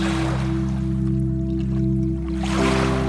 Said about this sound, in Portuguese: O mar continua a dançar diante de ti.